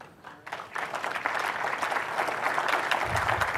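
An audience breaks into applause that swells after a brief quiet start and continues as a steady, dense wash of clapping with no voices on top.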